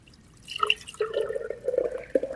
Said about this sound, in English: So this is the pureed watermelon. Okay, now I'm going to make the mix. So I'm going to take the watermelon juice and just pour it into a pitcher.